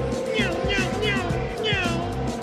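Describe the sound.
A voice imitates a Formula One car engine, producing several quick, high-pitched revving whines one after another, fairly loud over a steady low background hum.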